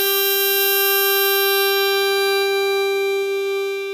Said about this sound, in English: I would come back to playing scales and arpeggios and the sound. So I would do long tones, like something like that, like...